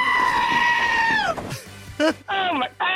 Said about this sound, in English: I'm going goat. It is a goat. It's a goat.